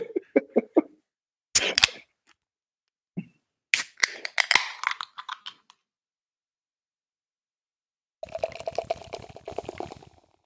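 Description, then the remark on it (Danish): Scattered bursts of pouring and glassy clinks give way to about two seconds of dense, fine crackling as beer foam fizzes in a glass, picked up by a microphone, steady and moderately loud, with no talking. “det lyder bare så dejligt, når man sidder her og hører det i din mikrofon, det her skum, der bare knaser og knitrer, når den er sådan.”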